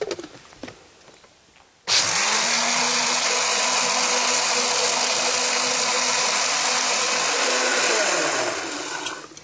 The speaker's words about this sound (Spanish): Entonces, con esta misma agüita, las vamos a poner en la licuadora con un poquito más de agua, calculando la porción que vamos a hacer, y la batimos.